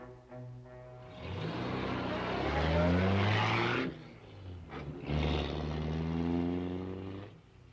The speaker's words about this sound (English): I learned it would be blue tonight, so I'm driving the blue convertible with the blue license plates, and I've put the blue Picasso in the car.